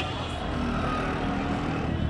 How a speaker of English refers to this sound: What we're getting is traffic, a lot of traffic, what passes for normal traffic in Egypt, which means it's chaotic, it's horrible, it's loud